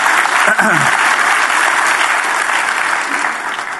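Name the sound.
audience applauding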